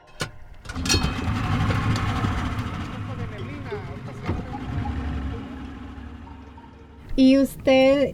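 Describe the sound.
A boat engine drones steadily on the water, a low continuous rumble that holds for several seconds before a voice briefly cuts in near the end, as a retired fisherman in Te Akapan takes his boat out to where a colony of Cayo de Hacha used to be.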